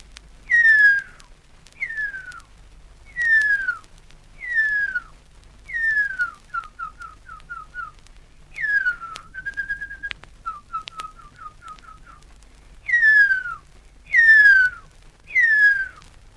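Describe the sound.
A person whistles imitations of huia bird calls, the male's and then the female's: clear descending whistled notes in a steady series, broken by short runs of quick repeated chirps, fairly loud with no talking.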